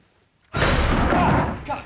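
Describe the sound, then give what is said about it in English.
Closet doors are pushed shut after a moment of silence: a sudden loud, broad whoosh and rumble lasting about a second, fading into a softer knock at the end. “He closes the doors.”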